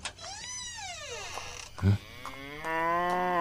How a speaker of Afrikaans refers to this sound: Nou? Wat dink jy doen jy? Mal koei, gaan uit! Dit sal die dag wees. Watter wêreld het mens ooit al van 'n koei gehoor wat haar kooi binne 'n huis loop soek?